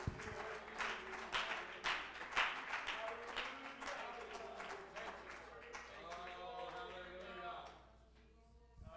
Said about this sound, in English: Yeah, why don't we clap our hands to the Lord tonight? Thank you, Jesus.